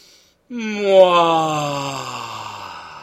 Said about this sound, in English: So let's do it one more time. You ready? Okay. In through your nose and out through your mouth. One more time. Here we go.